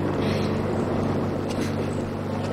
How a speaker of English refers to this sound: A tractor rolls up behind Lena.